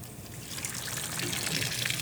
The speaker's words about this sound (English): It's time to remove the eggs from the water. So I'm going to place these into a small bowl and run cold water over them.